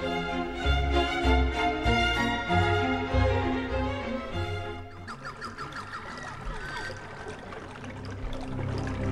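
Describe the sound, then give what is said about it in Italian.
Water runs and pours steadily in a continuous splashing rush, taking over after a few seconds of tonal music and carrying on to the end with no one speaking. “Sentiamo che acqua che scorre, bellissima, perché per lei, perché in questa puntata parliamo di acqua.”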